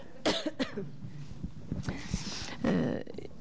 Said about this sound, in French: Vous voyez, j'ai envie de tousser. Je l'avale pas, ce truc.